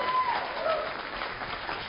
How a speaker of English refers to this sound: So let's give our first-time visitors a clap offering, please.